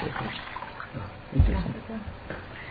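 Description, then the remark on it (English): Water pours into a cup for a few seconds, a steady splashing trickle with a soft knock partway through, and faint voices murmuring in the background. “Anybody else want some water? Right. I could use some water myself.”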